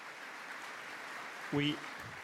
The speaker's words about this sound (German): Ein Applaus dafür.